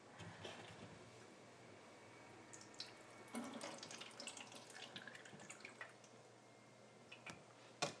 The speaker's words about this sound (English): So, what I'm going to do is turn this guy on, open up this guy. Pour my water in the back.